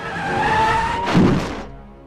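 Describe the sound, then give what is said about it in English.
A lorry's tyres squeal in a long, loud skid lasting about a second as a man steps out in its path, ending in a single heavy, dull impact thud that quickly fades away. “steps out in the path of a lorry.”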